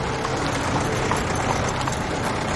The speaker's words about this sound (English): She looks ahead and sees Will trotting out to her on a horse.